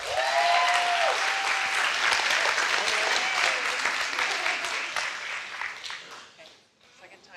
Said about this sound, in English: Y'all clap